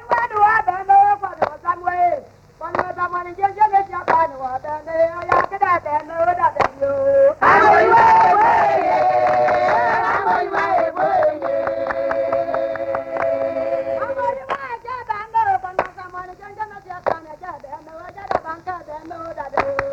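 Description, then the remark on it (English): Women standing in a circle or semicircle sing together in a bright, lilting melody, without drumming, while their sharp hand claps keep a steady, regular beat beneath the voices; midway the singing swells into fuller, sustained held notes before returning to the clapped song. “The women stand in a circle or semicircle and clap their hands as they sing.”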